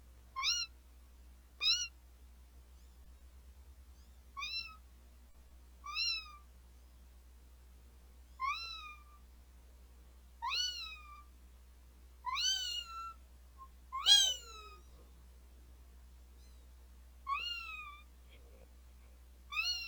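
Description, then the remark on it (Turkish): A voice imitates a cat, giving a string of about a dozen short, high, wavering meows at irregular intervals, clear against a quiet low hum. “Hadi bir de mark kedisi ol.”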